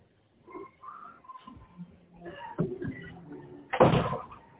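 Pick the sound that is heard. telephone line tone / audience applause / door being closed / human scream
door being closed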